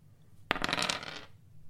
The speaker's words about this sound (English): That was a 3 and a 2. Two. And it's a zero dice roll, so it's a 2.